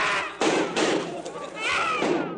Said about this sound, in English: I suppose you didn't hear that. What? Those shots, those screams.